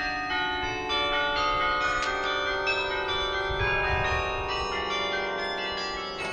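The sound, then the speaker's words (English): The practice clavier from the old World's Fair carillon plays a few bell-like notes, bright metallic tones ringing and overlapping with sustained harmonics at a steady, moderate loudness, no voices. “And this is the practice clavier from the old World's Fair carillon. And I'll play just a few notes.”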